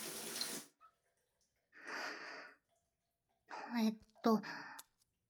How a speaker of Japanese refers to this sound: しょうがない。シャワーを一旦止めて、と。